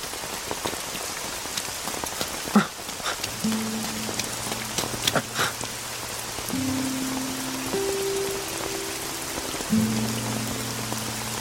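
A sudden rain shower pours down steadily, a dense hiss of drops striking a surface with a few sharper splashes, while soft low sustained tones hum underneath. No one speaks.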